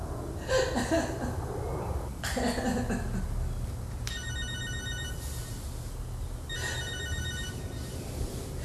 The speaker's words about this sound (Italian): Scusa, il telefono.